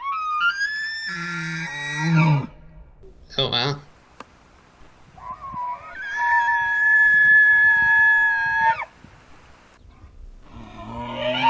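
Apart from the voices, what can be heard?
elk bugling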